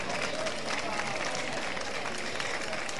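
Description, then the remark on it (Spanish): An audience applauds for the mayor of Huelva, Pilar Miranda, as the jury is introduced, steadily throughout, a dense wash of many hands clapping at even volume with no pauses. “Un aplauso.”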